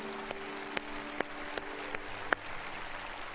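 A crowd applauds, congratulating people who came forward to publicly dedicate their lives to God, with a steady, dense patter of clapping, a few sharper individual claps standing out at irregular moments; fairly soft, with no voices.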